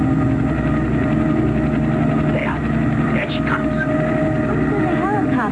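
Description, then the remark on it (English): A helicopter coming in from the east: its steady, loud engine drone fills the whole stretch with a constant low rumble and whine, while faint voices or other brief sounds flicker on top. “What's that noise, Father? The helicopter.”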